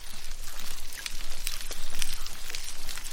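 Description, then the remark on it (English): Underwater recording of dugongs munching and squeaking in the Indian or Pacific Ocean, with short chewing crunches and faint high squeaks rising over a steady bed of dense crackling and snapping from prawns. No voices. “If you were to stick a microphone into the water in some parts of the Indian and Pacific Oceans, alongside the snapping sounds of prawns, you might hear some munching and squeaking noises.”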